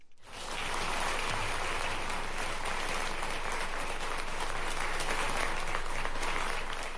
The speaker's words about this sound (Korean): 네, 미군 장병들의 지금 박수 소리를 들으셨는데요. 예. 한국 대통령이 미 대통령을 이렇게 미군 기지에서 맞이한 건 사상 처음이었습니다.